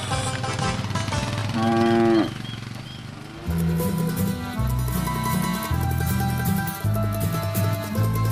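A cow lets out one long, loud moo, rising in pitch before fading, then upbeat music with a heavy bass line takes over.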